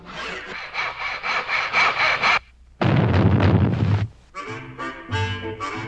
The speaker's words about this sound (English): Muskie then climbed up to the roof of the hen house and started to saw a hole in the roof so that he could sneak in that way.